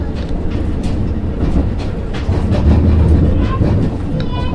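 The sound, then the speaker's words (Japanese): A Senmō Main Line train rumbles steadily through Katsuradai, a small single-platform station, shortly before entering a tunnel, with a loud, continuous low roar and faint rhythmic clatter of wheels, a brief high squeal near the end. “ただいま桂台を通過しました。まもなくトンネルに入ります。”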